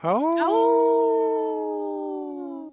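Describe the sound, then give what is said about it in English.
A few people on the Native Roots Radio show I'm Awake howl like wolves together, their voices sweeping upward and then holding a long, steady, loud wail for a couple of seconds before trailing off. “Wait, I don't think Heather howled with us. Did you howl with us?”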